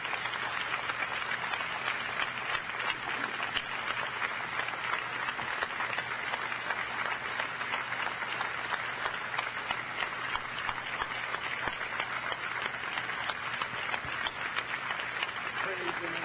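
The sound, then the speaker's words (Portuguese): An audience gives a round of applause to all of them, applauding steadily for the whole stretch, a dense, continuous patter of many hands clapping at an even loudness with no talking over it. “Vamos dar a todas uma salva de palmas.”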